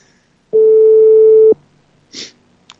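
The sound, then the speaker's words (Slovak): A single steady telephone call tone for a call outside the Telekom mobile network, a clear mid-pitched beep lasting about one second, followed by a short soft rustle and a faint click. No one speaks. “ideme volať Mirke”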